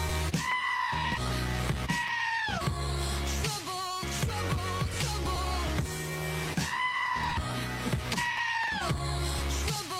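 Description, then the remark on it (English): Loud, strained screaming goat bleats recur several times in a row, layered over a dense, steady music backing. “That's going to be all of us for the next 4 years, just screaming goats.”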